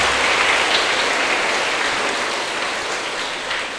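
A large crowd applauds steadily at an afternoon gathering of young people with the monk Thích Nhật Từ, a dense wash of clapping that stays loud and even throughout, with no talking over it.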